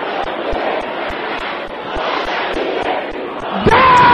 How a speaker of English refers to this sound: Can I hear you shouting loud and clear?